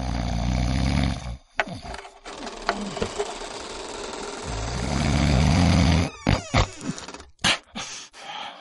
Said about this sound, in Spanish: Su esposo roncaba sonoramente.